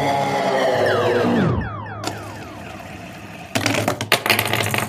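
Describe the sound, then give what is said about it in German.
A fidget spinner whirs with a buzzing tone that slides steadily down in pitch, gives a sharp click, then clatters and rattles loudly as it falls from a hand and off a coffee cup. No voices. “Mein Fidget Spinner ist mir aus der Hand gefallen.”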